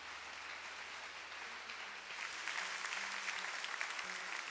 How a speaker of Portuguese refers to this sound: Quer aplaudir? Aplaude, filho.